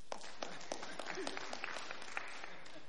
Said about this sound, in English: A round of applause for him.